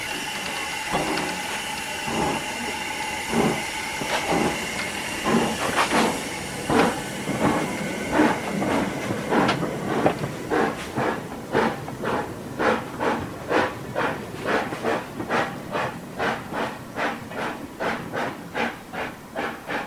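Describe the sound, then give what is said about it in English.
A steam locomotive, to be used for demonstration rides at the National Railway Museum in York, hisses, its rhythmic chuffs starting slowly and steadily quickening into a rapid, even beat as it gets under way; no one speaks. “it will be used to give demonstration rides in York to the visitors to the National Railway Museum.”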